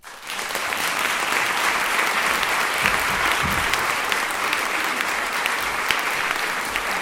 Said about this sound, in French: Je vous prie d'applaudir très très fort